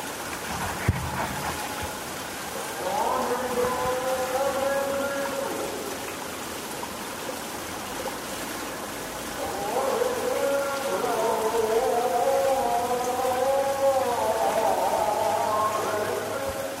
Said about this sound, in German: Sobald man vor die Tür tritt, ist man vom Rauschen der Bäche umgeben.